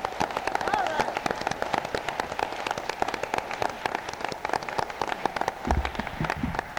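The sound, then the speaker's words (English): An audience claps their hands in a dense, steady patter of crisp slaps that lasts the whole stretch at an even, moderate loudness, with a faint murmur of voices underneath. “Got a hand clap.”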